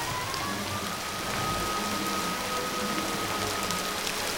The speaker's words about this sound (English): The rain streams down in torrents, plastering her hair to her face, churning up the dark surface of the River Floss, which has spread in all directions.